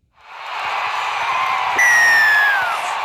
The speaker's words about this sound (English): How good's that whistle? Yeah, I got told the whistle is way too loud. I might have to turn that down.